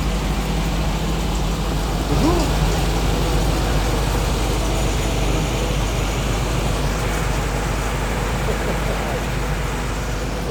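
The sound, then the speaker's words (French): A car collector's old car engine runs steadily while he tunes it, a constant low rumble that fills the whole clip while someone briefly speaks over it. The engine burns as much oil as petrol. “Donc là, il est en train de régler certainement sa voiture.”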